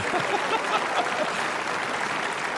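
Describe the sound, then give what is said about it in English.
A crowd applauds steadily, a dense wash of many hands clapping at once with no breaks, fairly loud, with faint voices mixed into the noise. “Would you give this guy a round of applause?”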